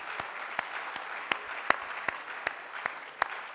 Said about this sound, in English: So I want all of you to give yourselves a round of applause for making it out tonight.